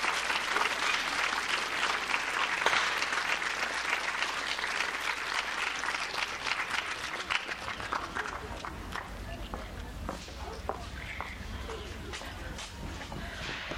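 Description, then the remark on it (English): A crowd applauds steadily, a dense wash of clapping that stays loud throughout and thins slightly toward the end, with some low rumble and scattered sharper claps. “Let's give them a hand, please.”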